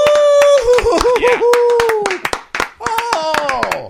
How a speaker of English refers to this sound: I mean, they're on the street in the middle of all the vomit. They're still clapping for you out there. This is amazing.